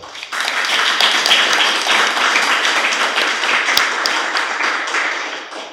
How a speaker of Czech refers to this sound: Poprosíme potlesk.